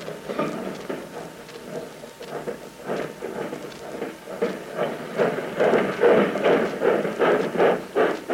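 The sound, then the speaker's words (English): A freight train rumbles steadily along the tracks, a dense rolling roar with rhythmic clacking pulses that grows louder toward the end, with no voices. “Day and night, freight trains and motor trucks are crisscrossing this country, freighting the materials of war to the men of the services.”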